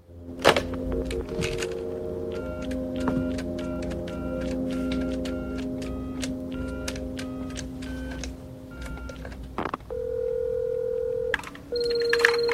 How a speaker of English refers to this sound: kneels by the phone and lifts the receiver.